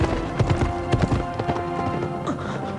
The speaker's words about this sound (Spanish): El rey y sus jinetes se alejan.